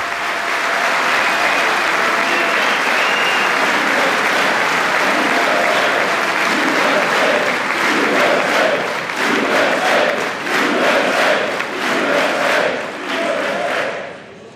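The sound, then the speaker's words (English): Loud, sustained applause from a large crowd of Members of Congress and guests for President Trump at the 2019 State of the Union address, dense and unbroken, with cheering mixed in; about halfway through it settles into a steady rhythmic pulsing, like a chant or rhythmic clapping. “That applause for President Trump just hitting his stride in the 2019 State of the Union.”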